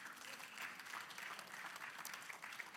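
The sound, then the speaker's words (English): An audience at Cornerstone claps steadily for a few seconds, a dense, even patter of many hands with no voices rising above it. “You can clap for that.”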